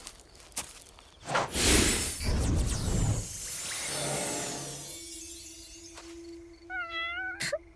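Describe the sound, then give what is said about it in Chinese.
A small cat named Lulu gives one short, clear meow near the end, following a loud burst of crashing, shattering noise and a low steady hum; no one speaks. “小菊，你忙了半天就是要召唤这只小猫回人间啊？”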